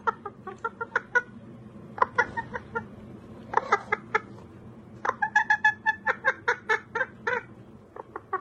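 A single chicken clucks up close in short, rhythmic bursts of sharp clucks, pausing briefly between runs, over a low background hum, with a quicker, busier sequence near the end.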